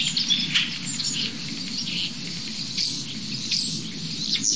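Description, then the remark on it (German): A busy chorus of starlings chattering and whistling nonstop, high squeaks and trills crowding together, with a robin's song mixed faintly into the din over a low steady rumble. “Ich weiß nicht, ob man das Rotkehlchen noch gut raushört.”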